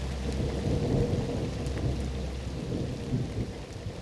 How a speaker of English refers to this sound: The rain stops. Clouds part.